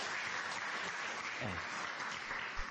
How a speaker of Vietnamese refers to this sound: Các vị phải dành một tràng pháo tay cho những người phụ nữ này của chúng ta mới đúng chứ.